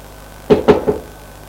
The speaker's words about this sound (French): Allez, tu frappes.